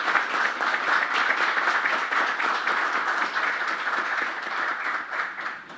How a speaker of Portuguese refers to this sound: Uma salva de palmas ao homenageado